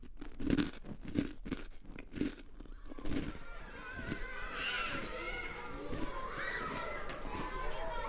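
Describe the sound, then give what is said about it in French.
A handful of crisp crunches come in a steady rhythm as someone eats rusks at breakfast, then give way to a busy background of children's voices and school playground bustle. “Mais comme ma mère est toujours sur mon dos, je mange des biscottes.”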